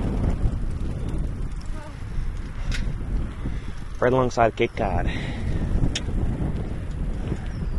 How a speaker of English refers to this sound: Ah, windy, windy, windy.